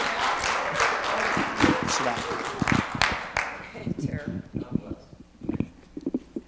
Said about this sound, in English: Hey, someone started to clap. You can clap because I don't know what's going to be like after. So you can clap before.